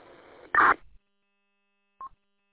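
A hiss of radio static gives way to a short, loud burst of warbling MVC 1200 data tones, a radio ID signal used for paging, alerting and ID, then silence and a single brief high beep.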